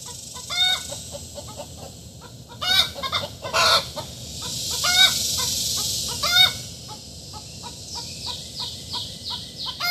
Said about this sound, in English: I'm considering making that my actual alarm clock on my phone. I love the sounds that my chickens make. They sound so desperate, but really they're fine.